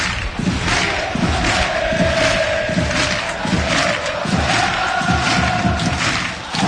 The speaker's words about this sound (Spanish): Todo el estadio aplaudiendo, todas esas casacas albiazules, las palmas arriba, al unísono